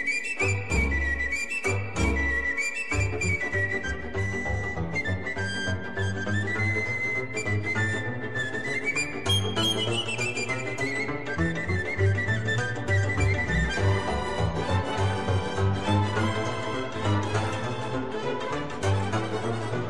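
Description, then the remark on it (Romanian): Lively folk music from an ensemble of the Republic of Moldova, led by bright, whistling flute melodies over a steady bass and rhythmic accompaniment, playing continuously at full volume with no voices. “După cum vă spuneam la începutul emisiunii, suportul muzical ne este asigurat astăzi de ansamblul … din Republica Moldova.”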